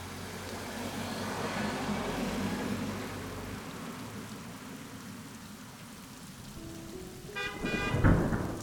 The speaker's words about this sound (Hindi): सावन का मौसम था इसलिए बारिश काफी तेज हो रही थी।